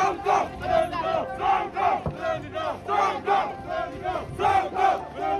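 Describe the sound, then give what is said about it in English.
A large angry protest crowd in Dakar shouts in loud, rhythmic bursts, about one chanted cry per second, many voices together with no pauses of quiet between surges. “Police there and in Ungol residential neighborhood fired tear gases to disperse angry crowds.”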